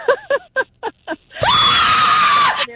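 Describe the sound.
A man's voice acts out a scream of pain from when his kneecap was fractured: several short, gasping vocal bursts, then one loud, drawn-out shriek held for about a second before cutting off.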